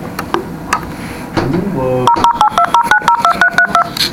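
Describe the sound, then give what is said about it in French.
A rapid sequence of about a dozen telephone keypad tones on a blocked telephone that is not working, evenly paced and fairly loud, following a brief stretch of background noise and faint rising whistles. “Allô ? Ça marche pas, hein ? Il est bloqué le téléphone.”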